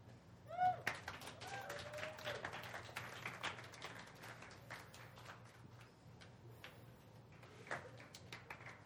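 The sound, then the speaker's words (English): A crowd claps steadily in a dense patter, with a brief whistle and cheer near the start, cheering for the sound crew doing an amazing job; the applause keeps going at an even level for several seconds. “If you're new, we cheer when the sound guys are doing an amazing job because their job is very difficult.”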